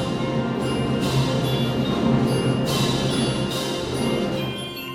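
A full concert band plays a sustained passage, with bright bell-like chime accents striking over the ensemble a few times at irregular intervals. There is no talking.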